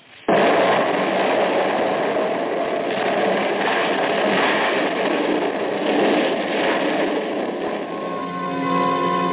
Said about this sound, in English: That explosion had ripped Tony's spaceship open, blew me out through a rip in the wall